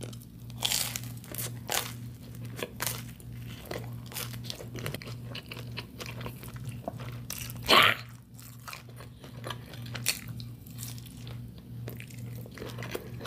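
Wet mouth sounds of someone eating a soft, creamy snack: scattered smacks and chews, then one louder gulp midway as too much is swallowed at once, over a steady low electrical hum.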